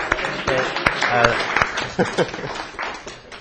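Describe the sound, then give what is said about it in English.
A brief burst of audience applause, scattered claps crackling, mixed with some voices and cheers, fading out after a few seconds. “Round of applause for the particles.”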